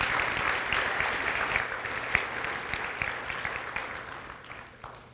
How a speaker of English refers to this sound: worship team another round of applause. Wonderful job.